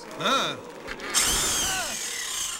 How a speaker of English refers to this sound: Shall I start up this saw? Don't you know I pack a chainsaw? I'll skin your ass raw.